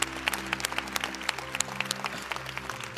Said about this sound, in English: And I want you to thank God for the privilege of the influence that he's given us all across this country. Will you help me give God a round of applause for that?